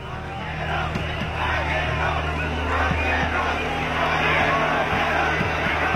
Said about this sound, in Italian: La folla grida per alzarlo. Lo trasportano oltre la calca.